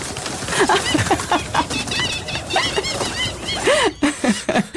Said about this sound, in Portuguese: Acabou de perder um tratamento de spa. Olha, super relaxante, numa sala cheia de pombos e gaivotas. Quando alguém bate uma palma.